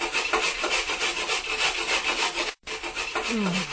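A knife carving a hole into the wooden lid of a chest, giving a continuous rough scraping and rasping that runs steadily with a brief break near the end, fairly loud, with no voices.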